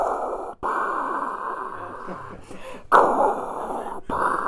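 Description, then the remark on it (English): A voice imitates Darth Vader's breathing: long, raspy, hissing inhales and exhales, loud and steady, broken by a few brief pauses between breaths. “And I can do the breathing for Vader.”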